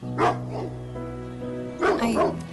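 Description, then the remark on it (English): Dogs bark in two short bursts, a pair of sharp woofs near the start and another pair just before the end, loud over a steady low hum. “These dogs.”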